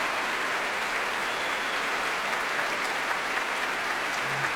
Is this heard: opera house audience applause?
yes